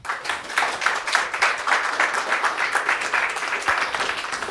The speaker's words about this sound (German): Großen Applaus.